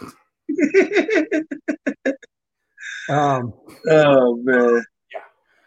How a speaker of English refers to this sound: All right, knock it off. You're going to hear my dog. My dog's going to make an entrance.